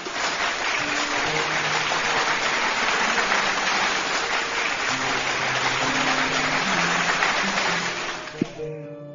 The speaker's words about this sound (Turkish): Kocaman bir alkış sana